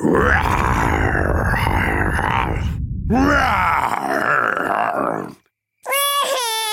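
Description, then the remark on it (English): Daddy Pig imitates a huge, fierce dinosaur's roar in long, growling, strained bursts with a gravelly low rumble, followed after a brief silence by a higher, wavering whine. “Living outside was a huge, fierce dinosaur.”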